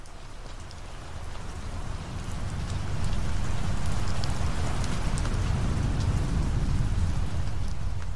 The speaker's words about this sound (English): A major storm front swept across the East Coast on the evening of Monday, September 10th, 2001.